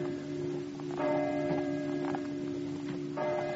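signal or alarm, clock chiming midnight

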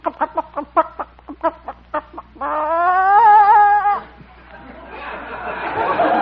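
bird, hen clucking

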